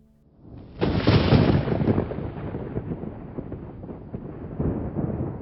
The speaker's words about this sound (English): The thunder should have been a warning.